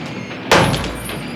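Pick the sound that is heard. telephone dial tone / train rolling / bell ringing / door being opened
door being opened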